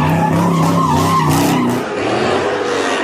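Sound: car skidding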